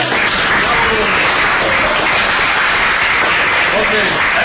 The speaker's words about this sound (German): Das ist ein Applaus wert, oder?